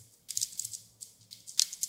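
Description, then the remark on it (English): Soft, irregular clicking of keys as Radiolab's Lulu Miller types on a keyboard, a quick run of light taps with brief pauses, fairly quiet, with no voices. “I hear you typing.”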